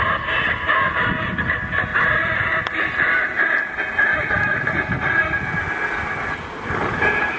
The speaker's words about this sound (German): Schauen wir mal, vielleicht kommt doch noch hier noch die Dessau-Würlitzer Eisenbahn vorbei. Kann man doch noch mal ein Foto machen.